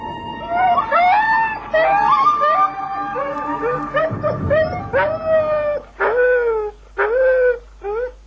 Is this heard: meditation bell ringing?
no